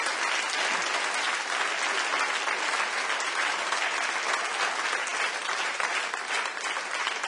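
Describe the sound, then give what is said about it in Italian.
A large audience applauds the Holy Spirit after a time of worship, a dense, even wash of clapping that holds at a constant loud level for several seconds with no talking over it. “Facciamo un applauso grande allo Spirito Santo, c'è una bellissima presenza.”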